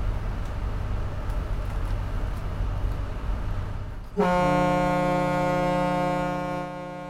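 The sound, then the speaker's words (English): A steady low engine rumble gives way to one long, loud riverboat whistle blast on the Kanawha River, a deep, rich, brassy tone that holds for a couple of seconds before cutting off. “If you want the whistle, I'll blow the whistle.”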